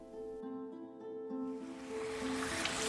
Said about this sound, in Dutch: Nou, we lopen net langs een soort mini-waterval met een gat erin. Maar je denkt, oh, gewoon een mini-waterval met een heel soort donker gras erin.